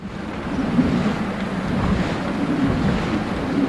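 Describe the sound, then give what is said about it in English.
The four giant sails of a traditional Dutch windmill at work, turning in a strong wind, a steady, loud roar of rushing air with a low rumbling whoosh and no voices. “With its four giant sails flailing in the wind, a traditional Dutch windmill is at work.”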